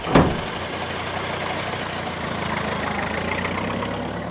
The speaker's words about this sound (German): Der Wagen fährt ab.